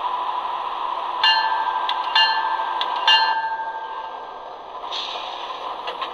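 A clock ticks about once a second with faint ringing, metallic clicks, heard over a steady background hiss with no voices.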